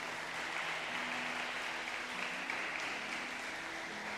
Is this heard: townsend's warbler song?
no